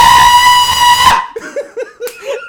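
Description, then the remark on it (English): A man lets out one loud, piercing scream held for about a second, then it cuts off abruptly and is followed by a few short, breathy bursts like stifled laughter. “He screamed so much!”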